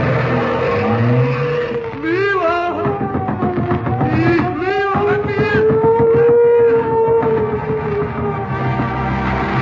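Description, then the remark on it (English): A car engine revs loudly and roars away, with sharp squealing tire skids bursting out twice as it speeds off, continuous for the whole stretch. “Into the car, everybody.”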